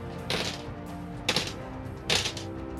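Dice clatter and rattle in three short bursts, each a quick clicking tumble against a hard surface, moderately loud over a faint steady background hum.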